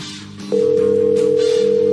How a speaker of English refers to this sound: Let the bat phone ring.